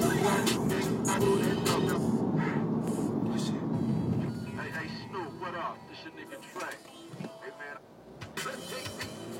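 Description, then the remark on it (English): Steady low rumble of a car interior on the move, road and engine drone filling the background while people talk over it, loudest early and easing slightly later. “It's a great morning in America. No, in this car anyway.”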